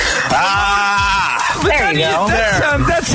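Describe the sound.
A man lets out a loud, drawn-out throaty growl, his voice rising and warbling in an exaggerated wrestling-style snarl that almost turns into a groaning burp.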